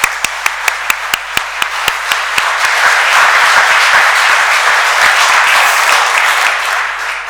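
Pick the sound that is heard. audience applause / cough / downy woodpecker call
audience applause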